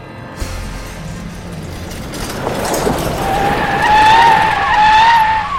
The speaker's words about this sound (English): Many taxis are arriving. The taxi drivers are brave. They drive their taxis in front of the plane.